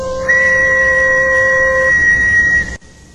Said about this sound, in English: Very well, but first I have to find my whistle. Ah, here we go.